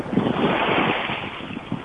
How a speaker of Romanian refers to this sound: Băi, se aude marea, stai așa. Trebuie să se audă. Hai că se aud valurile, ce drept.